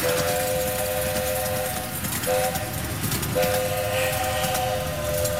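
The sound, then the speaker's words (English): A coal-fired steam locomotive on the mile-and-a-quarter loop railway at the Milwaukee County Zoo, running about 9 miles per hour, sounds its whistle in three blasts, long, short, then long, loud over a steady rumbling, hissing churn of the moving train. No one speaks. “That's one of the two coal-fired steam locomotives that has been clickety-clacketing on the mile-and-a-quarter loop at the zoo at about 9 miles per hour on the roughly 8-minute trip.”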